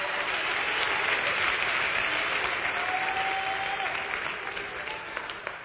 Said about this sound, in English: You can clap your hands.